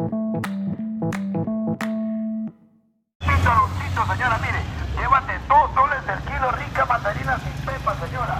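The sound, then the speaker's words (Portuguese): Busy downtown street with vendors: a short run of repeated electronic-sounding beeps, a brief pause, then a loud, dense wash of many overlapping voices and calls over a low, steady traffic rumble. “É, porque como todo centro, apesar de ser muito bonito, é aquela zona. Confusão. Escuta só, passando até o camelô.”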